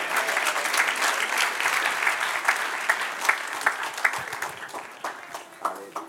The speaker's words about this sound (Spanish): Dale aplauso al Señor.